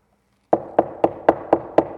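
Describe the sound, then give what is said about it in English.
Six firm knocks on a wooden door in a steady, even rhythm, fairly loud, following a brief silence with no voices. “Every time someone knocked on the door, their hearts would drop to the bottom of their boots.”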